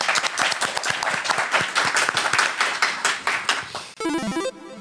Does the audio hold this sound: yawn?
no